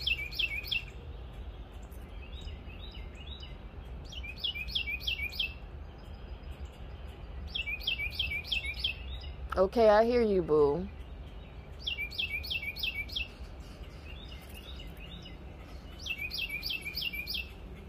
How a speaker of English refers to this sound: Okay, you hear this cardinal, that high pitch.